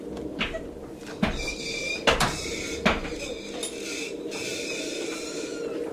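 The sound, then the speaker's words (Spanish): A door lock clicks open with a few sharp knocks and clacks at uneven intervals, followed by a faint wooden creak over a steady low background hum. “La cerradura de la puerta había hecho un ruido al separarse y unas pisadas lentas sonaban sobre el arco.”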